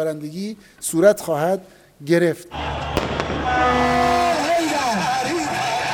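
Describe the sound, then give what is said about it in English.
Shouting voices give way to a dense outdoor din of fireworks set off by celebrating hardliners on the streets of Tehran, Iran: a sharp bang, then sustained crackling, hissing and whistling tones filling the street for several seconds. “On the streets of Tehran, some hardliners celebrated with fireworks, calling for even harsher action and even the destruction of Israel.”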